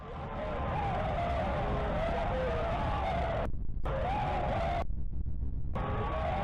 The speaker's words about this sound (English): Their screams were silenced in a moment, and it says, the morning after, Old Oakburn woke up to silence.